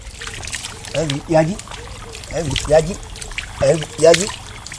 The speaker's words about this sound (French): se nettoie le front dans la rivière Bodo.